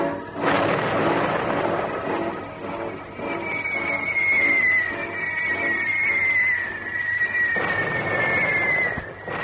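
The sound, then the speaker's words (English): Distant bomb explosions from the bombing of Singapore, at 5:30, rumble like thunder, with heavy booming bursts at the start and near the end, and a thin descending whistle in between. No voices. “As we scrambled into our uniforms, we could hear a faint noise like thunder in a distant summer storm.”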